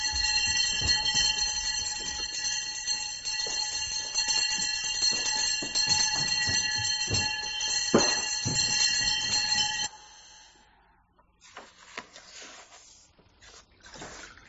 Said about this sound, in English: Four o'clock in the morning. The day of the training monks begins with the wake-up bell.